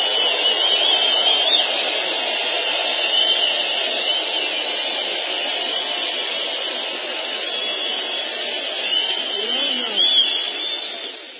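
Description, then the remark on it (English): A big crowd at a rally cheers and roars loudly in one continuous, dense wall of noise that holds steady for over ten seconds, swelling slightly near the end, with no single voice standing out. “A little shout out to the law enforcement there, and of course the crowd, as you can hear, the decibel level about took the roof off.”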